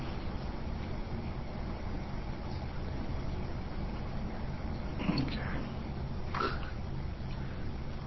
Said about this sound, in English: Now notice how heavy this traffic is out here. There's no way we can sit in that area and get a patrol car out on the highway. It's just nearly impossible.